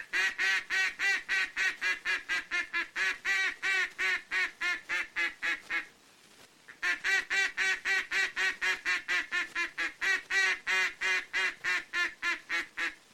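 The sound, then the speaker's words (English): Loud, full-voiced quacks from a duck call imitating the contented quacks ducks make on water, used when ducks are about 200 yards off and coming toward the decoys. The quacks repeat in a fast steady run, broken by one short pause before resuming. Clear, with no talking. “Note carefully the full-voiced quacks of this call that ducks always make on water when they're happy and neighborly, like this.”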